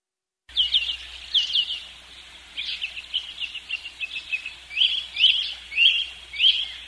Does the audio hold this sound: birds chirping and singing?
yes